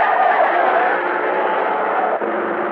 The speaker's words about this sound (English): Give it the gun. They're running for it. The police car speeds up.